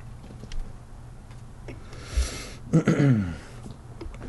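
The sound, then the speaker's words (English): A can of Tecate beer cracks open with a brief fizzing hiss, followed by a quick gulp and a short, satisfied voiced exhale, in an otherwise quiet setting. “Then Tecate.”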